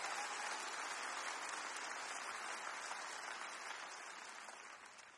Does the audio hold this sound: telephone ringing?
no